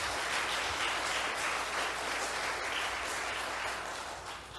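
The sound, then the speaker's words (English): An audience breaks into sustained applause, a dense, steady wash of many hands clapping at once that holds for several seconds before easing slightly at the end. No one speaks over it. “I bet somebody I could get somebody to clap when I preach, and so I just wanted to put that out there.”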